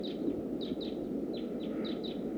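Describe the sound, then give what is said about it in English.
Geese call loudly in a series of about eight short, high, slightly falling notes, loosely spaced and sometimes in pairs, over a steady low rushing background noise; decoy geese calling while wild birds fly around. “The decoys are calling loud. There must be some wild birds flying around.”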